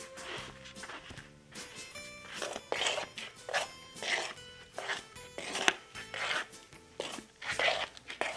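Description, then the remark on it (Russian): Slow, soft shuffling footsteps drag along in a steady, uneven rhythm, about a dozen scuffing steps, with a faint musical hum lingering underneath. “Слышите тихие шаркающие шаги?”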